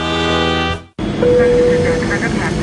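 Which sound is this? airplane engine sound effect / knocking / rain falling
airplane engine sound effect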